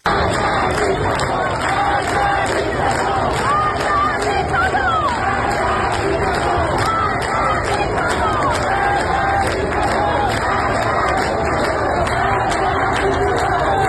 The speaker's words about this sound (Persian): در تهران منطقه نارمک هم مردم در تجمع خود در شامگاه شنبه شعار مرگ بر دیکتاتور سر دادند.